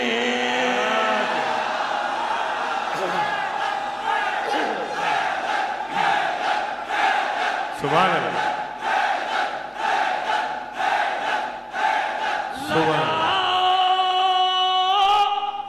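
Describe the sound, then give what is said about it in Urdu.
A large crowd loudly chants the religious slogan 'Haidar' in unison, voices landing on steady rhythmic beats before swelling into a long, sustained collective shout at the end. “لگاؤ نعرے حیدر پڑھو چہروں کی تحریر.”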